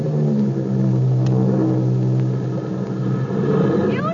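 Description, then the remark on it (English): A loud, steady airplane engine drones throughout as the plane comes in to land, its low humming tones holding constant with a slight rise in pitch near the end. “Beautiful landing.”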